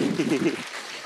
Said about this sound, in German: Applaus für unser Schauspieler.